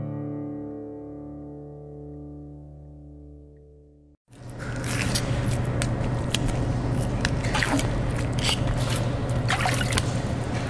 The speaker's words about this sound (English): That's the sound of a mackerel being filleted under the expert knife